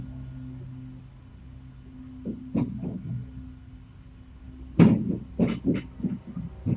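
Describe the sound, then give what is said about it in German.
Heavy, irregular thuds of loud stomping heard in an apartment at night, over a low steady hum, starting after a quiet stretch and growing stronger near the end. “Wieder dieses laute Stampfen.”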